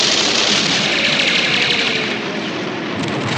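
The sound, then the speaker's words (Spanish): A dense, roaring wall of battlefield noise: gunfire and explosions blur together into a loud, continuous barrage with a dull low rumble underneath, never letting up, with no voices. “Sus tropas saltan descuartizadas por las explosiones.”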